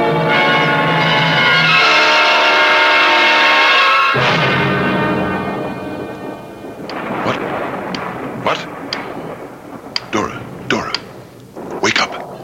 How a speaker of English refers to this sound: Listen. It's only the storm, dear.